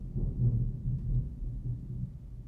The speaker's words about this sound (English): There's the thunder. Can you hear it?